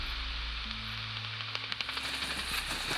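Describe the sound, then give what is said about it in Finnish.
A bat detector, a device that converts bats' highest-pitched calls into sounds audible to humans, crackles with a steady hiss as bats fly in the dark, broken by irregular bursts of sharp clicks that grow busier toward the end, over a faint low electronic hum. No one speaks. “Detektori on laite, joka muuntaa lepakoiden korkeimmat äänet ihmiskorvalla kuultaviksi. Detektorin rätinän avulla voidaan hahmottaa, millaista porukkaa pimeydessä lentää.”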